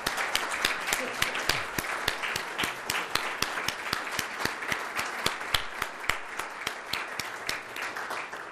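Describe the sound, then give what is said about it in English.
A crowd applauds steadily for over eight seconds, many hands clapping in a dense, even patter with sharp individual claps standing out, loud throughout with no speech; the audience is applauding some 28 young guests, the rising generation, as they stand. “We are very happy to salute what Russell Kirk used to call the rising generation, and I would like those representatives of the rising generation to rise right now and to receive our applause.”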